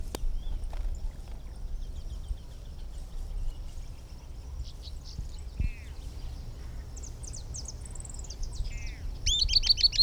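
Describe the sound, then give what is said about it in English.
High, thin notes of an unbanded Camptostoma tyrannulet, one of a pair at a nest, ring out in short bursts and quick descending trills over a low, steady rumble of background noise, growing busier toward the end. “Now here are some recordings of the unbanded bird, which is still present and singing.”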